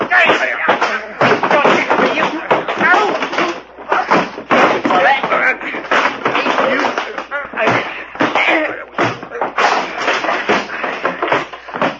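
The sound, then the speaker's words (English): A loud, chaotic fistfight fills the whole stretch: rapid thuds, slams and scuffling blows tumbling over one another, with muffled grunts and voices mixed into the commotion. “Gee, that was a fight.”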